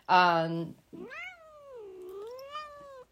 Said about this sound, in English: And these cat sounds are not edited, people. The cats are in here, and our young kitten Axel is very vocal, so sometimes he makes his appearance known.